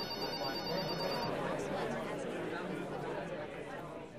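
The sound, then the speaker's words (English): Busy call center murmur of many overlapping voices, with a bright electronic phone ring trilling in the first second or so before fading into the steady chatter. “We open on a call center”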